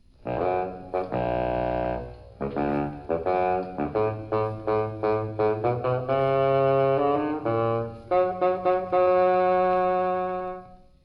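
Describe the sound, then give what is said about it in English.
A bassoon plays the grandfather's motif on its own in an orchestral tale, a low, gruff melody starting with held notes, then a bouncy run of short detached notes before settling into longer sustained phrases. No voices. “The grandfather by the bassoon.”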